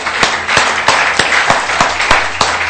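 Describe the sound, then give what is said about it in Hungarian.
An audience applauding the Lord together, a dense, loud wash of many hands with sharper claps punching through at a steady, roughly even pace, continuous throughout, with no talking. “Adhatunk egy nagy tapsot az Úrnak.”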